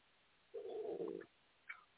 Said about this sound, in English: Your stomach. What? Is your stomach growling? Yeah. Did you hear that? Yeah, dude, I'm hungry all the time.